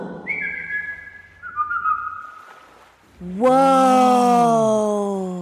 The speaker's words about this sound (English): How about a family whistle? Ah, sí. Un silbato.